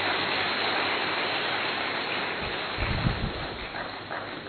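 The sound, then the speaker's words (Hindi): Steady rain hisses evenly throughout, a dense wash of falling water, with a brief low rumble of wind buffeting the microphone partway through. No one speaks. “बारिश आ गई, शायद स्वागत कर रही है आपका, धन्यवाद भाई।”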